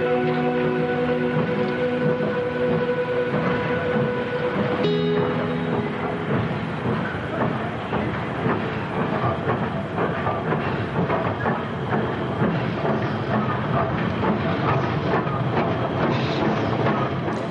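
A steam train runs along the rails, a sustained whistle-like tone in the first few seconds giving way to a steady, loud rumble with dense rhythmic clatter throughout, and no voices.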